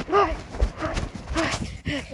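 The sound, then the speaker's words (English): Hard, knocking footsteps thud along at a steady clip-clop pace in the woods of California, with some brief vocal sounds mixed in. “I heard footsteps, though.”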